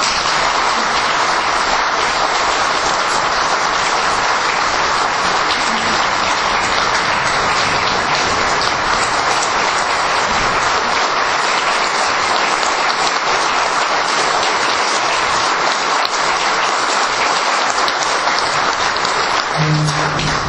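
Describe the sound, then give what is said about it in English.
A large crowd in Iowa applauds steadily for about twenty seconds, a dense, even wash of clapping that never breaks or fades, with no voices standing out. “Applaud yourselves.”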